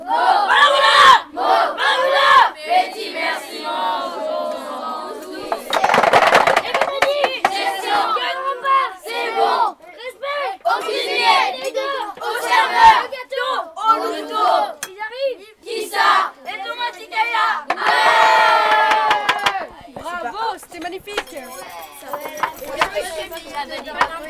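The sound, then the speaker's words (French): A lively crowd of young voices chatters and shouts over one another throughout, with occasional louder cries rising above the steady, dense babble of Éclaireuses et Éclaireurs unionistes de France scouts in France sharing a meal together. “Voici des éclaireurs et éclaireuses unionistes de France qui partagent un repas en commun.”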